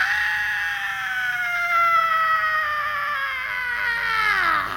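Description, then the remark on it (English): A woman lets out one long, loud, unbroken scream that holds a piercing high pitch and slowly sinks lower over nearly five seconds, alone, with no talking. “The insane woman started screaming like a mental patient.”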